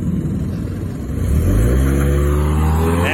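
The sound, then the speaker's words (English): A woman with a car full of kids screeches away, the car engine roaring loudly and accelerating hard, its revving pitch climbing steadily over a couple of seconds as the vehicle takes off, with no voices. “She screeches away in her 2005 Toyota Tercel or whatever the fuck she's driving.”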